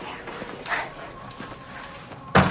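door closing

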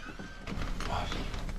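door opening

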